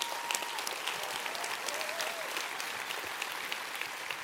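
Sustained audience applause at DevCon, a dense steady patter of many hands clapping at once, with no pauses for the full few seconds and a faint whistle rising briefly above it.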